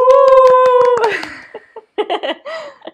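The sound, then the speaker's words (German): A short burst of light, steady, modest clapping lasting about a second, celebrating a two-year anniversary, with a sustained cheering voice over it that slides down in pitch, followed by a few brief vocal sounds. “Kleiner bescheidener Applaus.”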